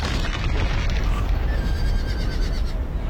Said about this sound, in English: Once across, the Irish use horses and ropes to pull keystones from the ancient structure. Look! The bridge!